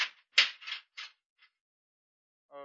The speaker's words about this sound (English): What was that? Well, one of the cell doors closing back.